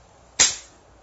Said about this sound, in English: slap on my ass.